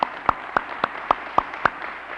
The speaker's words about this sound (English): but I'm going to ask all of our alumni and their spouses, if you would stand right at this moment, let us give you a special word of recognition. Will you stand, please? Let's give them a good applause.